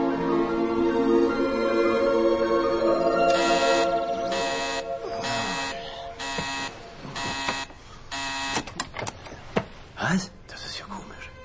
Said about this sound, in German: Ich hatte den Wecker auf 7 gestellt.